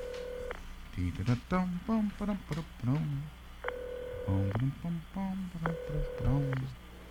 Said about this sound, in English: There's the phone ringing in Cane Tuck. Here goes our game.